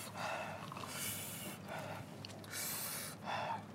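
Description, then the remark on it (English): Heavy, forceful breathing right up against the microphone after eating a very spicy chip, about five loud rhythmic huffs and pants in quick succession, with no talking. “That's the only thing that's helping me right now is breathing onto my”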